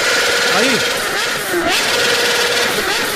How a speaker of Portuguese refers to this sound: Aí. Isso aí é a moto